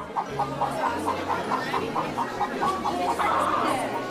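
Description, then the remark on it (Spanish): A hen clucks in a quick, steady series of short pulses, moderately loud, over a low droning background. “Los padres de los animales preguntaron a la madre gallina.”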